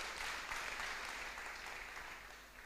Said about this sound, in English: Let's clap for Jesus.